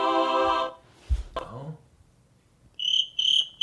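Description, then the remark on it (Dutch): A cricket sound effect played on an iPad chirps in a few short, bright, evenly spaced trills near the end, clear and fairly loud, following a brief tonal sound and a soft thump earlier on. “En dit is een krekeltje.”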